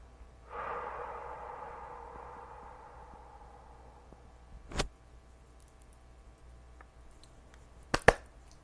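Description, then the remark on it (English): A single long, deep breath drawn in during a guided breathing exercise with both hands placed on the heart, a soft airy rush that slowly fades over a few seconds, followed by quiet room tone and a few faint clicks. “Rubbing your palms together, placing both hands on your heart center, and breathing in love.”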